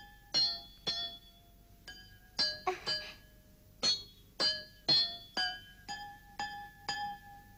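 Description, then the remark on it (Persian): A short melody of bright, bell-like notes struck on water-filled glasses, about a dozen clinking tones at varying pitches, each ringing briefly before fading, played alone at a steady, simple rhythm. “صدای نوت موسیقی.”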